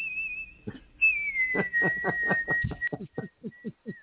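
human body sound, person whistling

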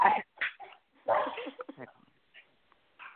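animal, dogs whimpering and barking

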